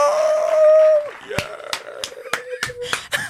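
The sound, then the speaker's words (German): A canned crowd effect: a loud sustained shriek or whoop for about a second, then a handful of sharp, separate claps at uneven intervals. No one speaks. “Das Publikum schreit und jubelt.”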